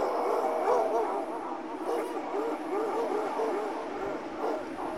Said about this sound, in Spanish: Son los perros de la migra, que se escuchan muy cerca de ellos.